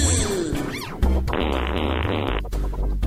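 A loud fart sound, sputtering and buzzing for about three seconds, with a few rough bursts before a longer sustained blast. No one speaks.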